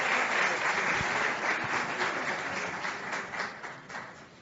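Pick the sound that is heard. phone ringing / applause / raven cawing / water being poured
applause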